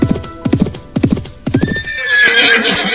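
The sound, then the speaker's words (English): Horse hooves clip-clop in a steady rhythm as a rider approaches on a tall, thin horse, then the horse whinnies, followed by a brief rush of hissy noise. “And that's when I saw the stranger riding up from the way I'd come, and he was tall and thin.”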